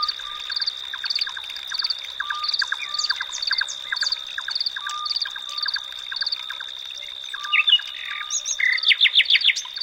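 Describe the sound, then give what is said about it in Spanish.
Scops owls whistle from a poplar grove at night, giving short, mellow notes at a regular pace, partly buried in a dense chorus of rapid bird chirps and a constant high-pitched drone, with sharper calls near the end. “Los autillos silban desde una alameda.”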